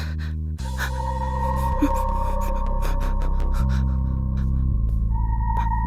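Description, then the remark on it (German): A woman's labored, gasping breaths come in a steady series of sharp pulls for air, loud, set over a constant low droning hum with no talking. “Das Atmen fiel ihr schwerer, immer schwerer.”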